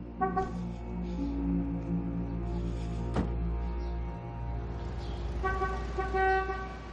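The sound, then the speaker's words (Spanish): A car engine rumbles as the vehicle pulls up and parks on a street, with sustained horn-like tones layered over the steady low drone and a brief sharp knock midway; no one speaks. “En su calle, el anticuario estaciona su coche.”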